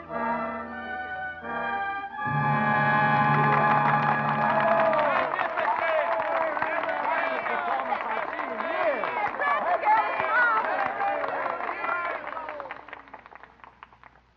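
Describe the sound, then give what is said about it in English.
A sustained chord gives way to loud, steady theatre applause mixed with crowd cheering and voices, which carries on for over ten seconds before fading out. “And I know that I'm grateful for your applause.”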